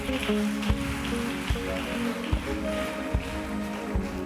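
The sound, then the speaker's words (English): An audience claps together during a prayer, giving the Lord a clap offering, in a dense, steady wash, with heavier beats landing about every second over sustained musical tones. No one speaks. “Give the Lord a clap offer.”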